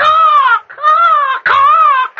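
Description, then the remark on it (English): A person up in a tree imitates a bird, letting out three loud, drawn-out "caw" squawking calls in quick succession, each a strained, nasal cry with brief gaps between them. “And never mind making bird talk at me.”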